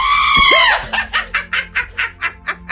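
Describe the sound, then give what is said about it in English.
A goat lets out a loud, strained bleat, then breaks into a quick run of short, rhythmic bleating bursts, about eight in a row. “Does that goat need an epidural?”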